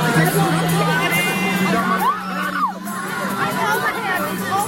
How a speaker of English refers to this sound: the video is weird because it's like, I mean, you'd think he was Mick Jagger. People are screaming and clawing at him